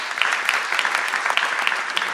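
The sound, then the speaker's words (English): An audience claps steadily, dense overlapping handclaps forming a continuous, fairly loud wash of applause with small bursts throughout, and no one speaking. “The claps are all for him.”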